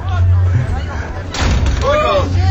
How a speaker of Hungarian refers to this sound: Jaj, a király bevágta az ajtót.